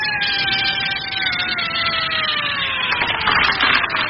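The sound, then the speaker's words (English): An electric drill runs continuously, its loud, steady motor whine sliding slightly lower in pitch over a rough, buzzing grind, with no voices. “Now plug in the drill.”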